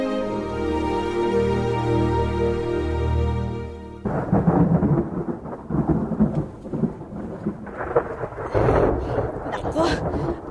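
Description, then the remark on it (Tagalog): A steady, low humming tone gives way after a few seconds to the thunder of an approaching afternoon rainstorm, deep rumbles swelling and fading over a constant rain-like hiss, with a louder crack-like surge near the end. “Ulan pa yata, Lauro.”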